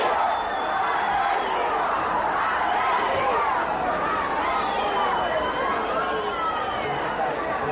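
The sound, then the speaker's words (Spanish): A large angry crowd of hundreds of outraged people surrounding the house of a murderer's relative hours after the crime, as police try to take him out in a car, shouting and clamoring at once, a dense, steady roar of many raised voices with overlapping yells rising above the din throughout. “son una marabunta de cientos de personas indignadas rodeando la casa de un familiar del asesino, a las horas de haber ocurrido el crimen, y con los efectivos policiales tratando de sacarlo en un coche.”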